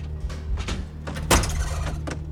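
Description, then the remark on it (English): A front door swings open with a few soft knocks and a louder clunk partway through, over a steady low hum, with no voices. “The front door swings open and Damien tries to sit quietly in a shadowy corner of the attic.”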